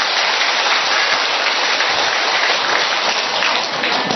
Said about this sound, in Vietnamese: Vỗ một tràng pháo tay thật lớn lên thưa anh chị em.